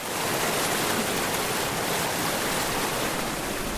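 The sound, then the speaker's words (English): Fast-flowing river water released from a dam on the Tyatine river rushes steadily and loudly, a dense, continuous churning roar with no voices. “All the water and all the rivers throughout the whole state, like, it's all snowmelt here, so once the snow's gone, late season, there's no water, no fun, then we come out to the Tyatine and they blow the dam, and good time, man, fast water.”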